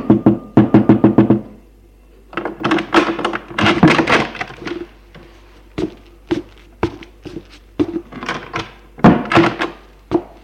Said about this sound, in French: Le directeur frappe à une porte et entre.